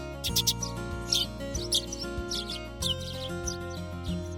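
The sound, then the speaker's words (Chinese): Bright, quick chirps and twitters of birds singing in a ginkgo tree in a forest come in short bursts over a steady, soft musical backdrop, repeating several times at a moderate level with no talking. “小沙、小弟最喜欢森林里的银杏树，树上长满绿油油的叶子，还有鸟儿开心的唱歌。”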